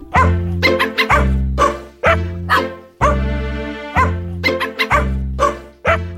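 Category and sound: animal, dogs barking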